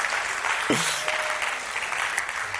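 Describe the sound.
An audience applauds with steady, dense clapping that fills the whole clip, broken only by a brief swooping tonal sound and faint voices in the mix.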